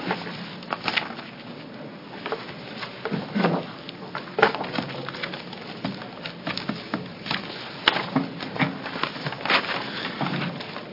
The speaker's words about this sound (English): Sorry, we're shuffling a few papers here, and then we'll open a public hearing on House Bill 2178.